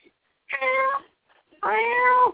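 A cat named Nelly meows twice, two drawn-out, tonal cries about a second apart, the second longer and slightly louder. Nobody talks over them.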